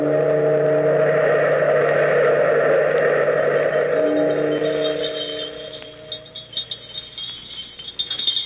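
A sustained, droning chord fades away, then small jester's bells jingle in light, irregular shakes, bright and tinkling, with no voices present.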